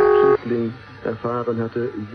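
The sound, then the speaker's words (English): A telephone gives one short, loud electronic ring at the very start, then stops abruptly as a voice begins talking over the rest of the moment. “A ringing phone.”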